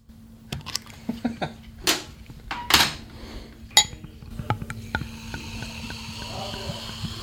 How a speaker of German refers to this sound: Ja, und da nehmen wir uns mal 2 Gläser aus dem Schrank und probieren einfach mal, ja?